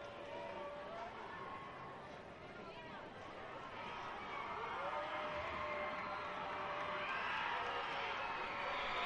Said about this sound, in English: Crowd making some noise.